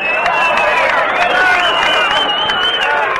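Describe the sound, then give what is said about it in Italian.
A sustained wash of clapping from a sizable audience applauding a poet reading poems, dense and steady throughout, with a murmur of voices and a few cheers mixed into the applause. “Fate qualche applauso. Se non mi applaudite non leggo più.”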